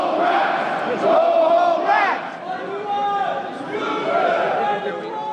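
A crowd of construction workers in hard hats on John Street in Lower Manhattan yell and shout together at a building they say uses non-union workers, protesting on their lunch hour; loud overlapping voices rise in bursts of chant-like cries that swell and dip continuously, with no single voice standing out.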